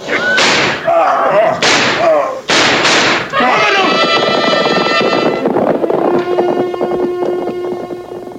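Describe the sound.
Four or five loud, sharp gunshots crack out in an irregular burst, mixed with shouting voices, then give way to a sustained, ringing tonal hum that slowly fades.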